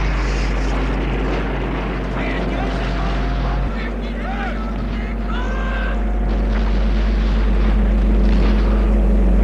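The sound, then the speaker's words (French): A loud, steady drone of enemy army aircraft engines during a battle in Ukraine rumbles throughout, heavy in the low end, with a slight shift partway through and faint higher tones drifting above it. “Il y a l'armée ennemie avec ses avions.”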